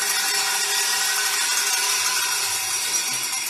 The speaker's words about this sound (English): Oh, this tradition carries on. And then ring your bell if you cannot imagine Advent without Bell Sunday.